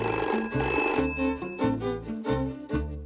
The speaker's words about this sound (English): Someone who is deaf or hard of hearing might even have a strobe warning light on their telephone to tell them when it's ringing.